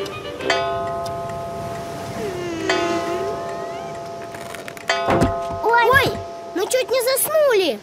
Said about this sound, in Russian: Но тут часы пробили 9.